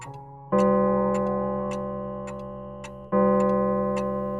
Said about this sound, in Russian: Давняя мечта отца Константина – часы с боем.